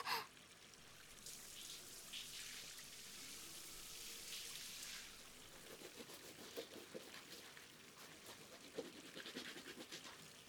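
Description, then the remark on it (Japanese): Continuous wet squishing and fizzy crackling as soap is worked into a thick, fluffy foam for washing the body at bath time, with soft bubbly pops and splashy bursts throughout and no talking. “あー、すっごい、こんなにふわふわの泡ができるよ。たっぷり泡泡。”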